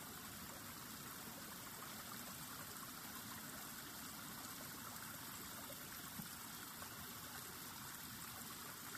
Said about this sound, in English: We can hear the rush of water.